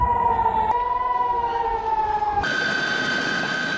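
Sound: air raid warning sirens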